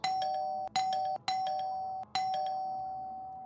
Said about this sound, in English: Then the buzzer rings.